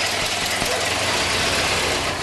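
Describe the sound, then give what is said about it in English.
An old car engine, started with a hand crank after the primer is pumped and the choke pulled out, runs at a steady, loud idle, its rough rumble and faint knocking holding even throughout with no talking. “pumps the primer, pulls out the choke, bends down in front of the car's grill, and gives the engine a firm crank.”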